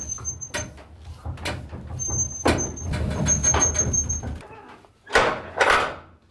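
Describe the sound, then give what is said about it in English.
Brakes of a hand-operated freight lift, worked with a rope, a big pulley and a cable, in an old furniture store, grind and clank over a low mechanical rumble, with thin high-pitched squeals drawn out in between and two sharp, loud bursts of noise at the end. “That's the brakes.”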